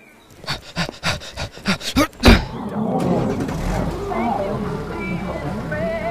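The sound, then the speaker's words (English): A hearse engine cranks in a quick series of bursts, catches with a sharp roar, then settles into a steady rumbling run as the vehicle pulls away, with faint voices mixed in. “I think someone stole the hearse.”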